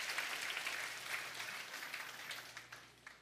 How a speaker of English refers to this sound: Can we clap our hands to that? Hallelujah.